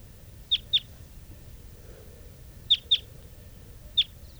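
Birds numbered 395 and 387 call with short, high-pitched notes, two quick pairs followed by a single note, standing out clearly over a low, steady background rumble.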